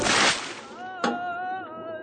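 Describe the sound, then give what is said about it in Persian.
Water is emptied out of a washtub in a short rush that splashes out at once, loud, then quickly fades. A second brief splash follows as a faint voice-like tone lingers underneath. “وایسا کنار خیس نشی. آب تشت خالی میکنی.”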